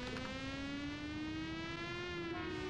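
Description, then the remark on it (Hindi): A siren wails continuously, its tone slowly climbing in pitch, loud and steady over a low background rumble, with no one speaking. “ओह, ये साइरन किसी दिन जान ही ले लेगा।”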